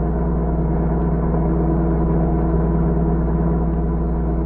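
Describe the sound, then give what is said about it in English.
A steady, droning car engine hums along at a constant pace, its low rumble and tonal whine holding level for several seconds without any voices; the car, its motor not running well, is driven toward the border and cannot go faster than 40 miles an hour. “You mean this car won't go faster than 40 miles an hour?”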